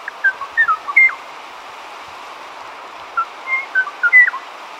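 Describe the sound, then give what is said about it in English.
A Kauai o'o, a forest bird of the Hawaiian island of Kauai, sings gentle, clear whistled notes in two short bursts of a few rising and falling phrases, recorded in 1975 in the native rainforest of the Alakai Wilderness, heard over a steady background hiss with no talking. “Sadly, the Kauai o'o's gentle song was heard for the last time in 1987.”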